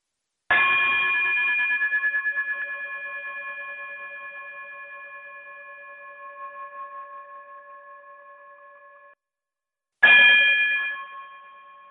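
A bright metallic chime, rung to close out a show, rings out with a sharp strike and a long, slowly fading sustain, then is struck a second time after a brief silence, ringing clearly with no voices.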